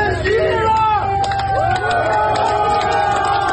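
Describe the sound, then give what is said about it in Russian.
A large crowd of Rostov-on-Don residents chants "Wagner is strength" and cheers as they see off columns of the Wagner private military company leaving the city. Voices rise and fall in loud, sustained shouts over a constant roar of babble, with scattered whoops and clapping mixed in throughout. “Такими восклицаниями и аплодисментами провожали жители Ростова-на-Дону, уходящие из города колонны ЧВК «Вагнер».”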